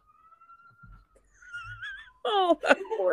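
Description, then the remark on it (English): A male cat screams in a bathroom, heard through a phone: a thin, steady whine gives way to wavering, rising cries, then a loud, harsh, warbling yowl bursts out over the last second, echoing slightly. “I think I said she because that is a feminine scream. It is very dainty. I can hear it echoing through your phone.”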